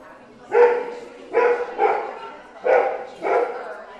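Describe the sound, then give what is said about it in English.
A therapy dog barks four times in an uneven rhythm at a weekly therapy dog meetup at the Parkland Rec Center in summer, each bark short and fairly loud, with a faint background hum between them. “This is a rare moment here at Therapy Dog Thursday, a weekly meetup at the Parkland Rec Center this summer.”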